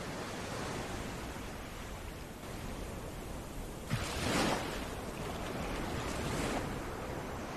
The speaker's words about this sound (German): Und höre das Rauschen der Wellen, wie sie sanft kommen und gehen.